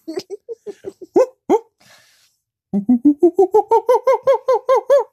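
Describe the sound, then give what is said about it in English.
A person's voice imitates a monkey call: a run of short hooting syllables, then a brief pause and a fast, rising series of about a dozen rhythmic whoops, loud and harmonic. “Do that monkey one more time. It sounds like a squawk.”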